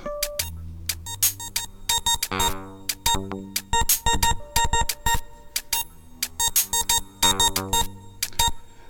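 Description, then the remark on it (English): Isolated organ stabs: short, punchy chord hits repeating in a syncopated rhythmic pattern, bright and fairly loud, with sustained tones between some hits and no voices. “Let's isolate the organ stabs and go.”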